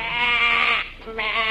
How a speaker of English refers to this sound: I noticed a row of cattle ships all loaded with sheep.